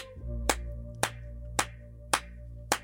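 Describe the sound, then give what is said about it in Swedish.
Five sharp, loud hand claps, given as a very hard closing applause at the end of a radio programme, land at a steady, even pace, each one crisp and separate, over a constant low humming tone with no talking. “Vi kör en slutapplåd igen.”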